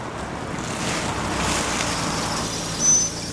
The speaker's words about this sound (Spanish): Llega la joven en su auto.